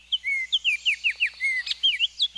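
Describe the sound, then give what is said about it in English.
Baltimore Oriole song: a lively run of about ten clear, fluty whistled notes, some rising and some slurring down, delivered quickly with no voices present. “If you're lucky enough to live near Baltimore Orioles, entice them to your feeder with half an orange.”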